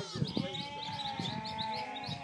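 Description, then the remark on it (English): Sheep bleat repeatedly, wavering calls overlapping, with faint birdsong twittering in the background. “Sheep and a hooting owl,”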